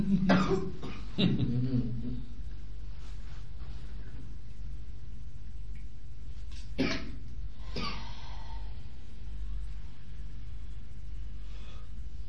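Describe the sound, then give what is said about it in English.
Several harsh coughs, two close together at the start and two more a few seconds later, over a steady low rumble in the background. “You feel your deep connection as you cough away the old.”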